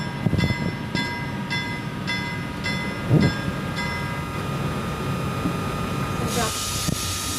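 A train on the Inlandsbahn rolls onto a single-track bridge over the Peterelven river and stops on it: a steady mechanical whine and low rumble, wheels clacking over rail joints in an even rhythm that slows, then a burst of hissing near the end.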